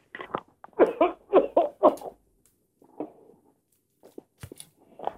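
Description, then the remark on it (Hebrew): A fit of loud, harsh coughing from Rabbi Aryeh Deri: four rapid coughs in a row, followed by a few quieter, scattered coughs and throat-clearing sounds, with no speech. “זה בסדר, הרב אריה דרי מדבר הרבה כל היום וכל הלילה בכל מקום, מוסר את נפשו, מותר לו קצת להצטרד ולהשתעל.”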